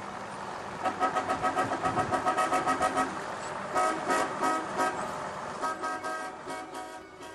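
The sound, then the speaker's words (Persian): A car engine cranks and turns over with a rapid pulsing rhythm, followed by several short horn toots, fairly loud, with no voices. “گفت نه دیرمه باس برم. سوار ماشین شد”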